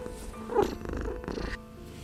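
A cat purring, a steady low rumbling hum with a soft, rhythmic pulse, running continuously for a couple of seconds with no one speaking.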